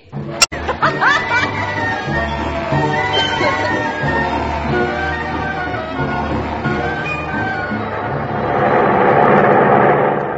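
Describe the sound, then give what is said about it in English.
A steady droning airplane engine hums throughout and swells louder toward the end as the plane approaches the Tangiers airport, while scattered audience laughter rises over it. “As our plane approaches the Tangiers airport, we see a sight familiar to all world travelers.”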